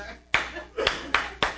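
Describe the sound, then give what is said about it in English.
Four sharp hand claps in a steady beat, showing how a whole church audience clapped along to country music songs, with a longer gap after the first and then three evenly spaced claps. Each one is crisp and fairly loud with a short ringing tail. “And the whole church clapped like this”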